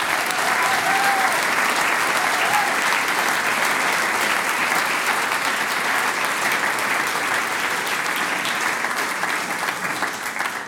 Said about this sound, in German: Ich denke, wir alle bedanken uns dann gleich mit einem großen Applaus für die Einladung.